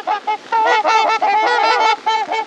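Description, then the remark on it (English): Loud, brassy honking from a flock of trumpeter swans flying on a sunny November morning, calling in overlapping, syncopated bursts with strong harmonic tones, short calls at first, then a dense run of honks. “As they fly closer, their long necks fully outstretched, the swans' syncopated honks reveal their identity. These are trumpeter swans.”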